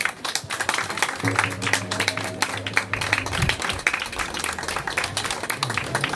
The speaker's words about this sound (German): Und das ist, glaube ich, einen ganz großen Applaus wert an der Stelle.